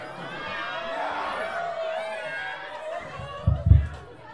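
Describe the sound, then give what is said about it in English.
A large audience in Santa Barbara meows together instead of clapping, a dense chorus of overlapping human voices imitating cats in wavering, sliding tones, with a couple of low thumps near the end. “No more clapping, just meows.”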